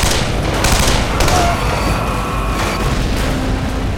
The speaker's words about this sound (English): Rourke swung the CAR-15 forward, thumbing off the safety, then pointing the rifle behind him. A little gunfire might slow them